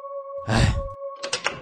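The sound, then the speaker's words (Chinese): The door of the last stall in a women's restroom at Xinpu station is opened, banging with a dull thump, then giving a short rattling clatter, all over a steady low hum in the background. “当我打开门，发现一位女性以半蹲的姿势离开冷室。”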